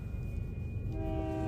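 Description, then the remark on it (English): A train creeps slowly past with a heavy low-end rumble and roar, then a steady horn tone sounds partway through, sustained over the continuous rolling noise. “as this train creeps by”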